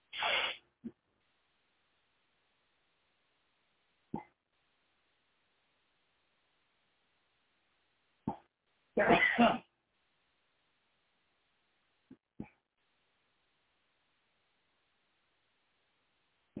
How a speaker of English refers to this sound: I had something tickling my nose, causing me to sneeze.